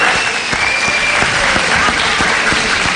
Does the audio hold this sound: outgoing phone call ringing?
no